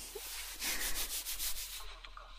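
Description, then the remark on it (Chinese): Soft, breathy rubbing of a hand affectionately patting and stroking a husband's head, about six quick back-and-forth strokes in a steady rhythm, with no talking. “真乖，配合的不错，摸摸头。”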